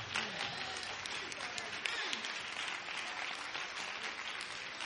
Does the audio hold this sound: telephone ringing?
no